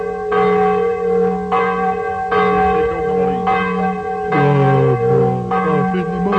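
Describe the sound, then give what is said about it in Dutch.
An alarm clock bell rings in bright, sustained tones, struck roughly once a second so each chime overlaps the last, with the pitch shifting midway; no one speaks. “Oh, dat man laat een wekker oplopen. Dat moet tingelingeling voortellen.”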